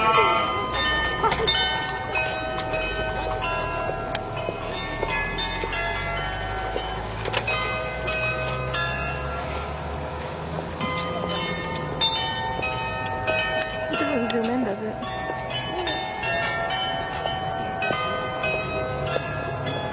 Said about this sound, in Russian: звонят колокола на башнях, а голоса призывают «Едерман»